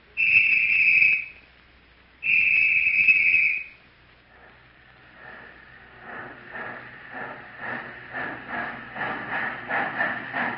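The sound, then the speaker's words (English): Two long, loud train whistle blasts, followed by the rhythmic chugging of a train that grows steadily louder as it approaches fast during a film shoot, with no talking. “Man, is that train bowling the jack? I'm afraid it's coming too fast.”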